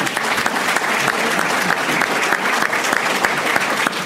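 Steady, dense audience applause fills the whole stretch, a continuous wash of many hands clapping at an even, fairly loud level with no voices standing out.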